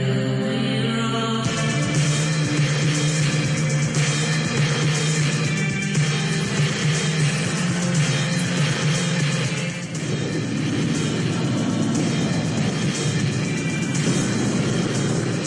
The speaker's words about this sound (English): We just saw the helicopter do a drop.